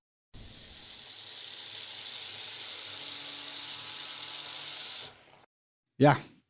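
An electric toothbrush running steadily for about five seconds, a low motor buzz under a wet, hissing scrub of brushing, then it stops and a short tonal sound follows.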